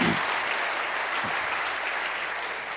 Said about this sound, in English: So I'll stop right there for some claps.